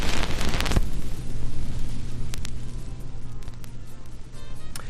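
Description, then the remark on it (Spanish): Steady hiss and crackle of a needle riding an old vinyl record, with a burst of dense noise at the start and scattered sharp pops and clicks over a low hum. “Se ve que nos gusta el sonido de la aguja sobre un viejo disco.”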